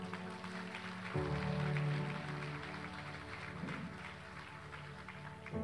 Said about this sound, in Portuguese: Vamos aplaudir a Jesus.